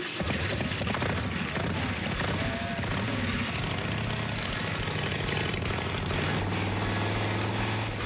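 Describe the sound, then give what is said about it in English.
A loud custom chopper motorcycle engine fires up and keeps running steadily, its deep rumbling note rising and shifting as it revs, filling the whole clip without any voices. “Fire this baby up and have a good old time.”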